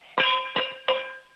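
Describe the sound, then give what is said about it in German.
Three sharp, ringing strikes at a steady pace, a wooden cooking spoon banging on a cooking pot, each with a bright metallic sustain that slowly fades. “Mit dem Kochlöffel runterquatschen. Nochmal. Mach mal richtig schön Lärm.”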